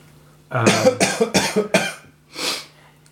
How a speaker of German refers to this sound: Aber nein. Nein, weil ich gehustet habe. Du musst deinen Husten nicht verstecken